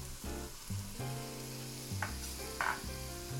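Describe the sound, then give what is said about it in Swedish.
Leeks and fennel sweat gently in a pan for a soup, a soft, steady sizzle running throughout, with a couple of brief brighter scrapes or stirs near the end and no one talking. “Ja, och de ska liksom svettas lite, som man säger.”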